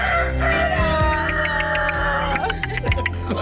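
Poultry sounds fill the yard: a rooster's drawn-out crow rises and falls amid scattered hen clucks, all steady, with faint voices murmuring underneath.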